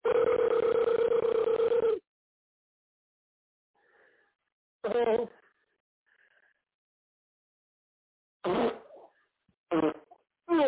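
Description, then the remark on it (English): Fart noises come through a tinny, narrow-band phone line from someone calling and farting into the phone: one long, buzzy blast at the start, then a few shorter sputtering bursts separated by near silence. “Look, somebody call your phone spam and farting on it, man.”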